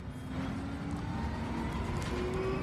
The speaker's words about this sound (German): So, wir sitzen wieder im relativ leisen E-Bus.